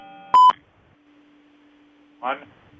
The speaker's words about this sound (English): Got a caller on. I heard a beep.